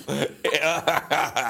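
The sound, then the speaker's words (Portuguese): A fairly loud series of four voiced, rasping coughs from a person with a bad throat, in a quick, even rhythm, each burst strained and throaty enough to sound almost like a chortle. “É o som que eu faço a tossir.”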